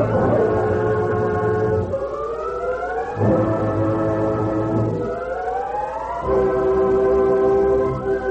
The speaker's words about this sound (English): Hey, Thunder, we all heard that train whistle. Should have reached the bridge just when the fuse set off the powder.